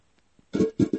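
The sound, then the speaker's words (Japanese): A loud, low, buzzy fart in a toilet comes in three quick bursts, one long rasp followed by two shorter blasts, after a brief near-silence. “めっちゃおなら出ちゃった。”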